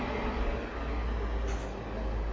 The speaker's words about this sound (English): There goes another car. There's a car.